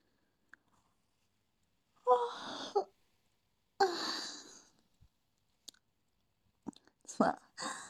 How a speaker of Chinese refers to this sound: 这么晚打哈欠不行啊？没有，不困的，就是打个哈欠。